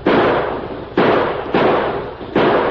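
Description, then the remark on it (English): Battle gunfire from fast-approaching riders: four loud, sharp shots at uneven intervals, each blast ringing out with a long rumbling tail that fades into the next. No voices are heard. “They're coming fast and shooting hard.”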